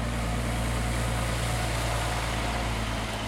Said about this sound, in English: While much of the rest of the world is shut down, the scene of the future dome is alive with activity, with bulldozers, dump trucks, and backhoes moving and smoothing the earth.